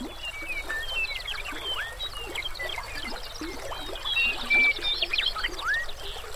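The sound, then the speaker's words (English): A steady wash of meandering river water flows throughout, in the river's southern reaches within Grasslands National Park, Canada, with a dense chorus of chirping and trilling birds layered over it, some calls bright. “As the river meanders, it blends its music with that of the birds.”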